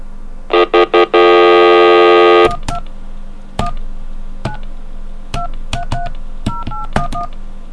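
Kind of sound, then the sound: signal or alarm, telephone keypad dialing tones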